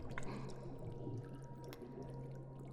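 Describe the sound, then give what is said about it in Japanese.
Continuous muffled underwater bubbling and gurgling of a body sinking into the sea, with a steady low hum beneath and occasional small pops, holding an even level throughout. “ブクブクブクブクブクブク、ブクブクブクブク。”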